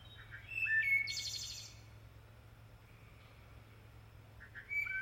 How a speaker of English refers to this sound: And one evening I began to hear a sound of a wood thrush. And the wood thrush has this wonderful warbling song.